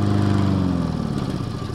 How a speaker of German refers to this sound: Ich kann dich nicht verstehen. Der Rasenmäher ist so laut.